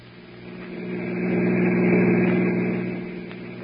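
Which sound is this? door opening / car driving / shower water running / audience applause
car driving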